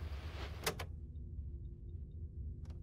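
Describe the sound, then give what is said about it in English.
A door slides open with a short rushing swoosh that ends in a solid clunk, followed by a low steady hum and a faint click near the end. “This door, it shouldn't be here.”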